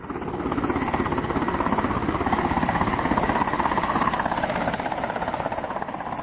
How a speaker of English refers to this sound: As the second of two UN helicopters landed on a soccer field outside the small farming town of Barclayville, nearly 1,000 villagers converged onto the area.